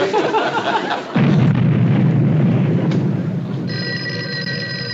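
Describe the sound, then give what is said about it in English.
A sudden deep blast from construction blasting on an underpass booms in at once and rolls on as a heavy, spreading rumble that slowly fades, followed by a telephone bell starting to ring over the dying rumble. “No, ma'am, that's just blasting on the underpass.”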